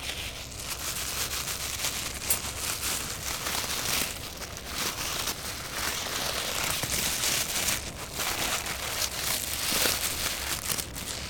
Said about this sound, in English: coaxes the ferret out of the trap by rustling a plastic bag along the sides of the wire cage.